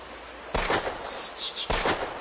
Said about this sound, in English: What? Gunshots! From behind those hills across the river. Maybe it was someone hunting. No, that's not someone hunting.